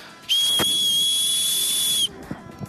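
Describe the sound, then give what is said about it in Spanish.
A single long, piercing blast from an emergency alarm whistle, blown as a test to show how an alarm for harassment or violence on public transport should sound, holding one steady shrill pitch for almost two seconds before cutting off abruptly, followed by a few faint clicks. “Así debe sonar una alarma de emergencia si una mujer o alguien está sufriendo una situación de acoso o violencia en el transporte público.”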